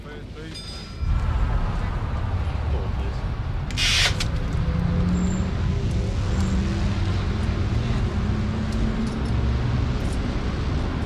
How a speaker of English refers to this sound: The morning rush hour is starting now, and London's familiar red double-decker buses are in evidence everywhere.